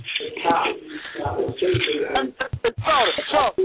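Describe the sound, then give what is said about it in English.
A muffled church service comes through a phone line from a phone in someone's pocket, with thin voices and fabric rustling and scraping over the sound. “These people want to hear the show that bad. They in church on the phone, man. Got their phone in their pocket, man.”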